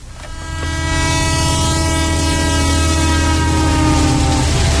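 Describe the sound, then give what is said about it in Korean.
A train rumbles along steadily while its horn blares in a long, continuous blast, loud, with no voices. “그러니 기차를 타고 대구로 돌아가는 그의 심장이 요동치는 건 당연한 일이었다.”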